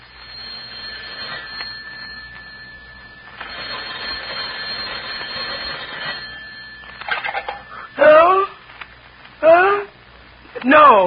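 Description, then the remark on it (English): A dialed telephone rings steadily for several seconds with a bright, buzzing tone, then stops as someone picks up and a voice begins speaking in short bursts. “Want me to dial it for you?”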